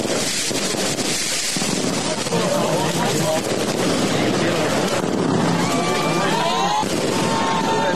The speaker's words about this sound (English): Now, they're actually cheering as the mosque part of the bonfire on the top starts taking light.